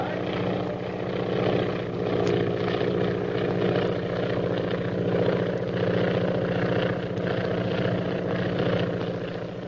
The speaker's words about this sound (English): There's a plane following us. Another plane? Has it got a purple triangle on it? Yes. By Jove, there's one on each wing.